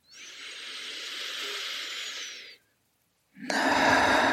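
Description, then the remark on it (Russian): A slow, deep breath taken in through the mouth with a long airy hiss, a brief pause, then a stronger, fuller exhale rushing out, during a guided meditation. Clear, with no talking. “И сделаем еще одно дыхание.”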